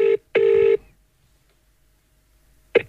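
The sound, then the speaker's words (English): A landline telephone's ringing tone heard over the line as a call is placed to a home landline: a steady buzzing double ring, two short bursts close together, then a pause before the next ring begins. No one speaks. “I'll ring the landline.”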